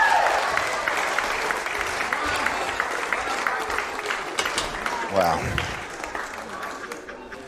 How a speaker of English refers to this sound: Fantastic. Give them all a clap. They were amazing.